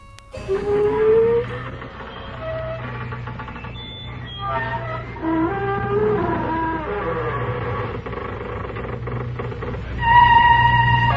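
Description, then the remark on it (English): A door creaks open slowly, a long series of groaning, squealing creaks that slide up and down in pitch over a low steady hum, ending in a louder, sustained high squeak. “Friends of the creaking door, this is your host to welcome you into the inner sanctum.”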